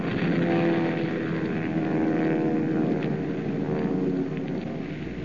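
A steady, loud drone of propeller engines from Nazi bomber planes fills the air, a thick continuous roar like a formation of heavy planes passing overhead, with no voices.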